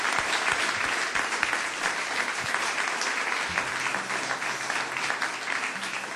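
A steady round of applause from an audience, dense clapping holding at an even loudness throughout, with no voices standing out above it.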